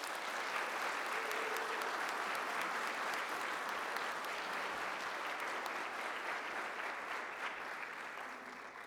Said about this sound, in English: Church, please show them your support by giving them a round of applause.